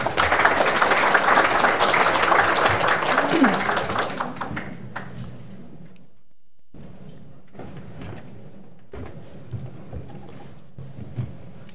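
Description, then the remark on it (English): A burst of dense, steady audience applause welcoming the speakers at an evening event on St. Patrick's Day, tapering off after about five seconds and giving way to quieter shuffling and a few soft taps. “Ladies and gentlemen, please join me in welcoming our speakers.”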